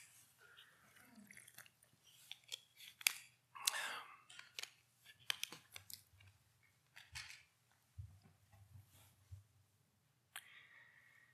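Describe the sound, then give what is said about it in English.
Someone takes a drink of water: scattered soft clicks and knocks of a cup being handled, a brief rushing sip, then quiet gulps over a low steady hum, with no talking. “I need a drink of water here.”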